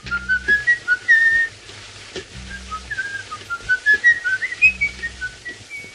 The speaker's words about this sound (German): Dieses Pfeifen hat sich in die Filmgeschichte eingeschrieben. Das ist Peter Lorre in der Rolle von M aus M, eine Stadt sucht einen Mörder. Fritz Lang führte bei diesem Filmklassiker aus dem Jahr 1931 Regie.